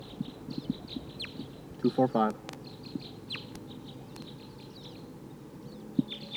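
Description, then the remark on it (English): Wild birds call in a steady stream of high, thin chirps, with a louder, lower harmonic squawk bursting out briefly partway through over faint background murmur. “Sounds like wild birds are coming.”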